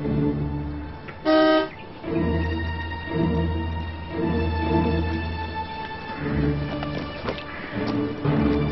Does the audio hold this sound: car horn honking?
yes